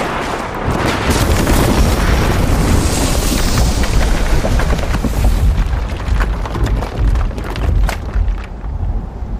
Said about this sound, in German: Dunkle Wolken waren aufgezogen. Ein mächtiges Grollen war zu hören.